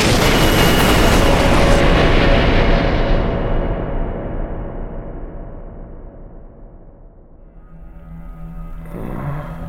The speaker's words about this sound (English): And then it brought its hands together in a thunderclap that sent a tidal wave of energy pouring forth across the room.